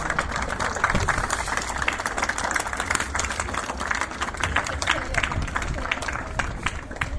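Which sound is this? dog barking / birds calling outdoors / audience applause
audience applause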